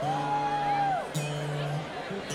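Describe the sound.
A lone voice in a Buffalo audience yells out a long, drawn-out shout requesting a song, followed by a second shorter call, over a steady murmur of crowd noise.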